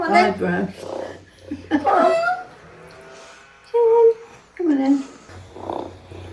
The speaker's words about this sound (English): Like they're just basically stuffed animals that purr. Here's the audio of it.